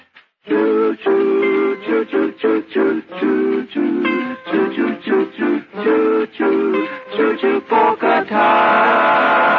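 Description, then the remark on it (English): A loud locomotive steam whistle sounds in a rapid run of short, uneven toots, then gives way to a steady, rushing hiss of steam being released at the end. “Till the engineer blew his whistle. Then he let off steam.”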